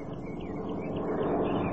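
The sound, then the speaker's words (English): A steady, droning engine hum of a small propeller plane, swelling gradually louder over a couple of seconds with a faint buzzy whine on top, no voices. “There it is again, honey. A light plane.”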